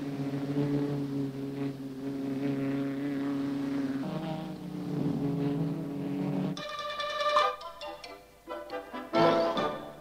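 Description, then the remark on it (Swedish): Four racing car engines drone steadily, then roar louder and climb sharply in pitch as the cars are flagged off by Ernst Nilsson and pull away together at a 1947 race in Sweden, held in severe cold before 40,000 to 50,000 spectators, with several overlapping engine whines in the final seconds. “Trots den kraftiga kylan hade mellan 40 och 50 000 åskådare infunnit sig och Ernst Nilsson flaggar iväg de fyra reseråken.”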